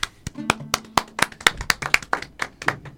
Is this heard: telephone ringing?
no